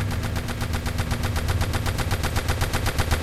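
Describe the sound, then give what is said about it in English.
A sustained, unbroken stream of loud machine gun fire as a gun called the Vicar is fired up into the sky and a truck is riddled with bullets. The shots rattle out at a steady rapid rate of roughly seven or eight per second, with a heavy low rumble underneath and no voices. “Moore points the Vicar into the sky and unleashes furiously as the truck is riddled.”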